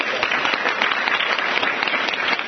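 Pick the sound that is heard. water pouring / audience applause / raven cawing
audience applause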